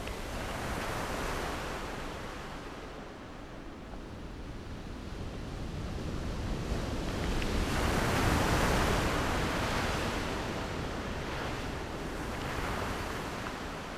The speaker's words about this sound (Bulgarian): Морските вълни шумолят едва доловимо, за да не пречат на стареца да разказва.